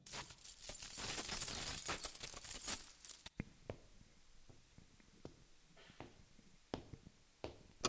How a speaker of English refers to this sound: it sounded like a clank of metal and distinct footsteps coming nearer every moment.